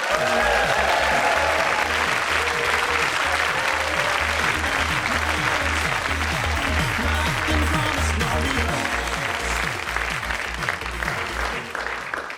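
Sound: audience applause and cheering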